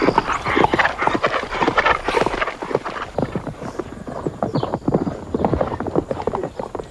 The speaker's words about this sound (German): er müsse dem Mädchen zu Hilfe kommen, weil das Pferd mit ihr durchginge.